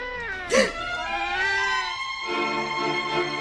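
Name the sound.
newborn baby crying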